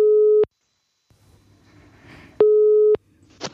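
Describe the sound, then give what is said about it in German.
An outgoing phone call's ringing tone sounds twice, each a steady electronic beep of about half a second, separated by a pause filled with faint low background noise and a brief click. “Klingelt.”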